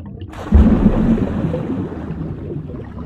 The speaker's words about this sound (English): so just leave a message after the sploosh.